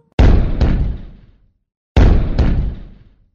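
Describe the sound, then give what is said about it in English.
Cannon blasts boom out loud, two pairs of sharp double bangs, each followed by a short rumbling decay, with a brief silence between the pairs and no voices. “Have you ever been shot out of a cannon before?”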